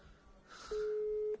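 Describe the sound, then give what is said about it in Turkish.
A single steady telephone tone sounds loud and clear for just over half a second, like one beep of a busy signal, as a phone call goes unanswered, rising out of a faint, hissy background. “Aradığınız kişi şu anda telefona cevap veremiyor.”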